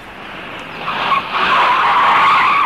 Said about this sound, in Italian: Un'auto nera sopraggiunse e si fermò proprio di fianco a lui mentre camminava.